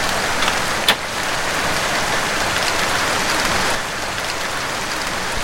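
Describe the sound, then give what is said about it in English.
Heavy rain from a night-long storm pours in a loud, dense, unbroken hiss, with one sharp tap early on and a slight easing of the downpour toward the end. “The rain grew into a heavy storm, which continued through the night.”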